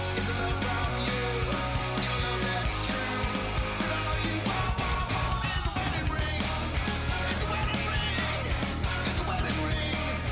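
A loud, dense rock song plays continuously for the whole stretch, with driving drums and full-band guitars filling the sound and no one talking over it.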